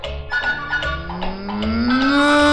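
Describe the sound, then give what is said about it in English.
A single long cow moo that swells and slides upward in pitch, loud, over a soft rhythmic musical backing. “And the cow said,”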